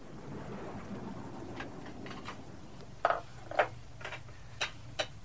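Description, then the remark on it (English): Steady rain hisses over a low, rolling rumble of thunder, with a handful of sharp, distinct taps like heavy drops landing. No one speaks. “It's raining.”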